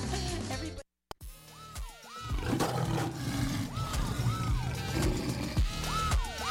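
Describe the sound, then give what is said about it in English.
A loud lion roar sound effect rumbles and growls for several seconds over a dense, busy background, with a brief dropout of silence near the start. “Discorder magazine's March issue is coming in like a lion, but it's not going out like a lamb.”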